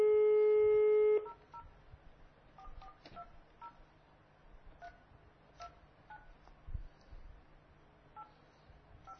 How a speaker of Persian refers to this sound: حالا قبل از اتمام برنامه یه بار دیگه شما شماره رو بگیرین